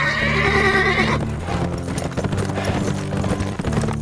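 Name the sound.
horses arriving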